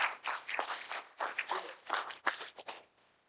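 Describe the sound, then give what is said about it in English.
An audience claps together in praise to God, many hands making a dense, crackling wash of sharp overlapping slaps that swells in bursts and then thins out and fades toward the end. “I got a hand clap. Give God another hand clap.”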